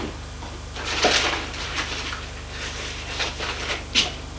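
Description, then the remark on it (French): A nightstand drawer slides open with a soft scrape and a wooden knock, followed by faint rummaging and a second clunk a few seconds later, over a low steady hum. “Il ouvre le tiroir de sa tente de nuit.”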